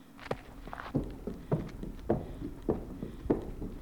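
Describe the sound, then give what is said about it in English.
Horse hooves clip-clop at an easy walking pace, six or so even, hollow knocks spaced evenly apart, distinct with no voices, as a big black horse is led out of a stable. “She's taking a big black horse from one of the stables.”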